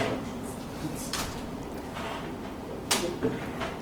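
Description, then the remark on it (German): A chair is pushed into place, with a couple of brief scraping and knocking sounds at moderate volume against a steady low background hum. “Schieb den Stuhl davor.”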